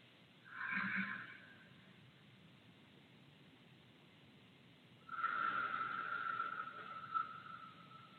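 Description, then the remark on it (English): A brief breathy sniff, a few seconds of quiet, then a long, steady, airy grounding breath drawn in for about three seconds, the first of three breaths, with no talking. “And just breathing in.”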